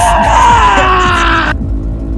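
A man lets out a long, strained scream of pain as a woman puts her finger into his wound, loud, his voice sliding downward before cutting off abruptly, leaving a low rumbling background.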